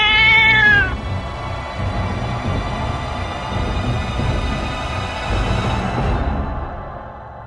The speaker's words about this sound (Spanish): Aparte de algunos muebles viejos y de una caldera con caños y alambres, el sótano está vacío. Entonces, desde algún lugar de las sombras, escuchás el maullido de un gato.